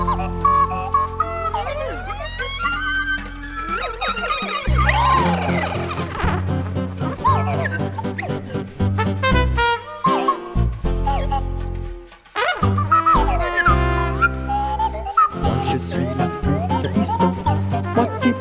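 A slide whistle swoops up and down in quick, playful glides, squealing like a small animal, played loudly over a lively band accompaniment with a steady bass beat.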